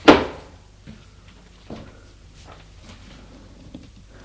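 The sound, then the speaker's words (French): The drawer of a secretary desk shuts with a sharp wooden knock as a parchment is put away inside, followed by a few soft, scattered clunks and rustles as things settle. No one speaks. “Le met dans un tiroir.”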